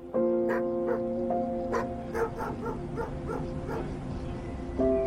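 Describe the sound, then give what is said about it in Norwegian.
Large dogs outdoors at Ekeberg in summer weather bark and yelp in a rapid series of short, sharp bursts mixed with high, drawn-out whines, steady in loudness throughout, with no talking. “Det er flere andre store hunder som er ute og nyter sommerværet på Ekeberg denne dagen.”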